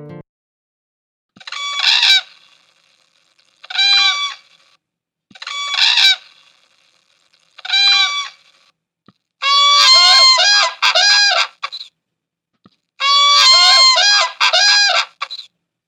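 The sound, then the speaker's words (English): Endangered whooping cranes in the Midwest United States calling loudly, first four separate bugling notes at a steady pace, then longer overlapping bursts of harsh, honking calls, with no voices. “let me turn to my conversation on whooping cranes”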